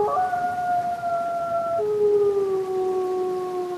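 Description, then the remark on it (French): Several wolves howl together in overlapping, long sustained tones, one voice sliding lower partway through while the others hold steady, loud with no talking. “et j'ai eu le privilège d'entendre ça, en fait les jeunes au début ne savent pas hurler. Ils jappent comme des chiens. Et en fait, c'est un apprentissage aussi de hurlement.”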